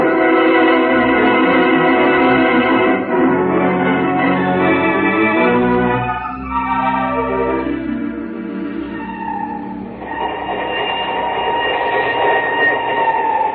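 A train bound for Timbuktu rumbles steadily along the rails, loud, with droning, shifting metallic tones layered over the continuous clatter and no voices.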